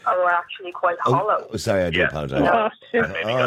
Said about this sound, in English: It's okay. It was just somebody else had a speakerphone in the background and turned on their phone there.